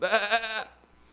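A single sheep bleats once, a loud, wavering, quavering call lasting about half a second, heard on its own before fading into near silence.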